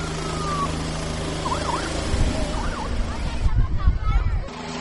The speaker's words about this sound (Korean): 사진기를 들고 헬리콥터 주변에 모여 있는데요. 경찰 헬리콥터이기 때문에 더 기대감을 가지고 헬리콥터의 이륙 모습을 지켜보고 있습니다. 자, 이제 헬리콥터가 드디어 이륙을 하나요? 조종사들이 헬리콥터를 타고 하늘로 오르고 있습니다.